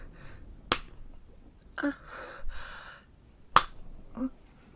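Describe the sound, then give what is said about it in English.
Two sharp, loud smacks of a hand striking bare buttocks, about three seconds apart, with soft breathy gasps and sighs filling the gap between them. “Oh, yes, mistress, please smack my ass again.”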